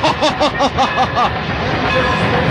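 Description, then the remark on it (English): A train rapidly approaches, opening with a quick rhythmic run of clanking pulses that gives way to a steady, fairly loud mechanical roar. “Well, I hear one rapidly approaching.”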